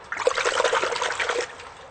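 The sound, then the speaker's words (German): A short burst of cold water sloshing and splashing in the frigidarium (cold-water pool) of a Roman bath, fairly loud, lasting over a second before fading out; no voices. “Dann können wir ja ins Frigidarium gehen und uns in kaltem Wasser abkühlen.”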